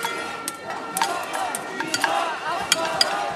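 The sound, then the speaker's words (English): A dense, continuous murmur of many overlapping voices from a protest crowd at Habima Square in Tel Aviv on Saturday night, with sharp clicks and knocks popping out every second or so across a steady, busy background. “As the crowd grows, the arrests begin.”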